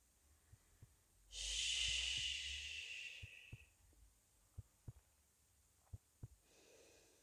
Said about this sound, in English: Put your head on my chest and just listen to my heartbeat, okay?